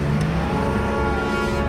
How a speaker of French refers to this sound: La voiture redémarre enfin.